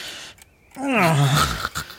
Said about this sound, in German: Oh, sie hört einfach nicht auf zu schnarchen.